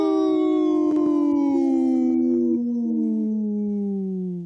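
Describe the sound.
A person imitates a wolf howl on Native Roots Radio: one long, sustained, loud tone that slowly glides downward in pitch over about four seconds before cutting off, with no talking.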